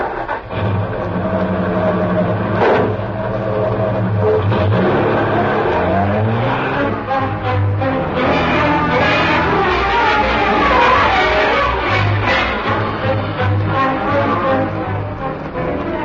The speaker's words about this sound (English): The car was a large sedan. The windows were closed.